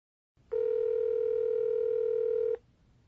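A steady telephone dial tone hums for about two seconds at an even, moderate volume, then cuts off abruptly, leaving faint line noise behind. No one speaks.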